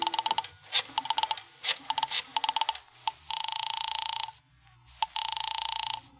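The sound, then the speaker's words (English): A rotary telephone being dialed as someone dials a phone number: several quick bursts of clicking pulses, followed by two longer buzzing ring tones. Clear, with no voices. “I remembered there was a phone someplace, too, and I found it and crawled over to it. And started dialing my number.”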